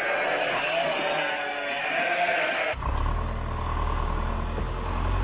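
Sheep bleat for a few seconds, then the sound cuts abruptly to a motor vehicle engine running with a steady, low rumble that continues to the end. No one speaks.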